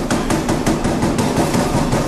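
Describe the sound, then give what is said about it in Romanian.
A series of sharp knocks on a door, about a dozen in quick, uneven succession, each a short hard thud over a steady background rumble. No one speaks. “Pentru Dumnezeu ați auzit cu toții de un sfert de ceas, tot bat în ușa asta și nu vine nimeni să-mi deschidă!”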